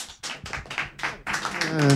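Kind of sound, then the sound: crowd, lukewarm audience applause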